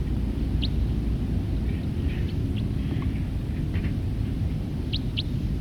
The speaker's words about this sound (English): Calls of that bird.